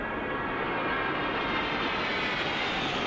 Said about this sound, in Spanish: Ahí está ese sonido que están haciendo los aviones de la patrulla Águila, dejando la estela de esa bandera de España sobre el Palacio Real.